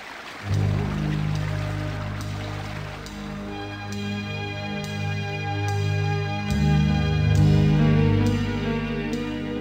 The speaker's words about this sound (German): Tatsächlich schoss das Wasser im Bogen von der Höhe herab. Hinter dem Vorhang aus Wasser befand sich ein schmaler Sims.